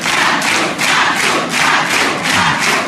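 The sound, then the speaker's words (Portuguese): A large audience chants a contestant's name loudly in unison, the same short two-beat cry repeating in a steady rhythm about every half second, with dense roaring voices. “quando a plateia gritou Matu, Matu”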